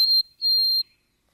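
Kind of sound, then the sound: bird, white-throated sparrow song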